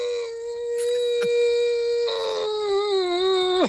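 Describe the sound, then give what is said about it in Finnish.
A whale call: one long, mournful, droning tone that holds a steady pitch, turns rougher partway through, then bends downward at the end. It is fairly loud and sounds alone, with no talking. “Tämä oli kyllä semmoinen kärsivä valas vanhus, joka niin kuuntelee.”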